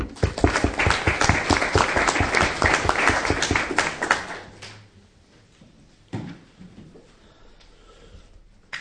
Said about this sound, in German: Das ist für Willi einen Applaus wert.